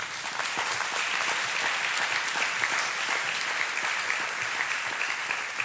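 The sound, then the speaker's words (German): Sustained applause from a church audience, a dense steady patter of many hands clapping at an even, fairly loud level throughout, with no voices standing out. “Können wir einfach mal dafür einen Applaus geben?”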